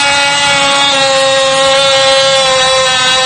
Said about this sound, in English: Now, this is a high-security lock. Doesn't quite work the same way. This is a very special reaming tool, and it just doesn't hardly touch the surface of the lock. There are special anti-drill pins, and as you can see, it's not getting anywhere.